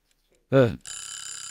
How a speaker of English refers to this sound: I didn't hear the buzzer go off.